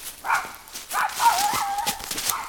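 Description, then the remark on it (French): A stray dog barks and yelps in a few quick, uneven bursts, moderately loud, with no one talking. “Il lui arrive parfois de rencontrer quelques menaces, comme un chien errant”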